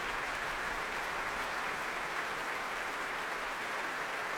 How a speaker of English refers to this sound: More applause for Daniel. And those cheers are for him as well. Nicola getting into his feet again to acknowledge his part in that beautiful duet.